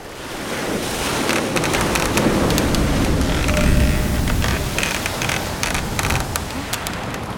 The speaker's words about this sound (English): Why is the sea so rough today? My emperor, a storm is heading this way.